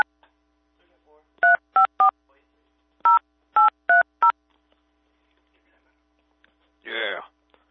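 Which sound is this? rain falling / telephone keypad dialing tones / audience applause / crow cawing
telephone keypad dialing tones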